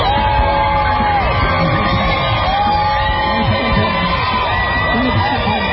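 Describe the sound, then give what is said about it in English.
A large outdoor crowd cheers and yells continuously as President Trump briefly leaves the hospital, waving from an SUV; a loud, dense roar of many voices with scattered whoops and shouts rising above it throughout. “The crowd cheers as President Trump leaves the hospital briefly, waving from an SUV.”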